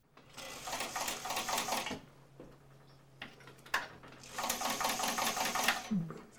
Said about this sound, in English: This is like my fourth sewing machine. I finally got one that I haven't broken.